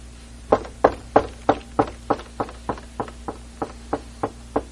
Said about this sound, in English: Will you let me in? I'm going to keep knocking. Because I love you so much. I'm just going to keep knocking. I'm not going to take no for an answer. I'm going to keep knocking.